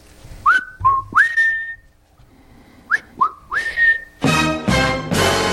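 Someone whistles two short phrases of three rising, sliding notes, clear, with a brief pause between them, then a loud burst of rushing, breathy noise takes over.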